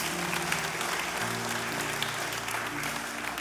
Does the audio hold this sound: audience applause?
yes